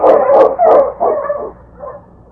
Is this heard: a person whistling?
no